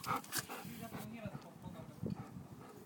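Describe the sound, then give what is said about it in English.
A person makes playful bark-like "woo" sounds, imitating a dog, in a few short bursts at two others who are playing, with some talking mixed in. “And I'm just barking at them. Woo, woo.”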